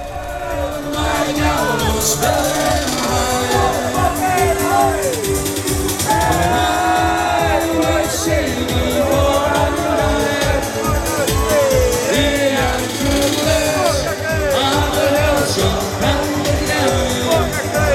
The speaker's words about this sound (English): The mostly young crowd fist-pumped and danced in the intense heat of the enormous fire and passionately screamed along. This is what it sounded like.